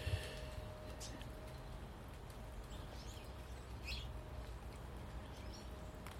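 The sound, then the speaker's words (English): Faint, scattered twittering from goldfinches at a garden feeder of Niger seed, with a few brief chirps rising over a steady, hissy outdoor background hum. “This morning, the goldfinches are down for the Niger seed.”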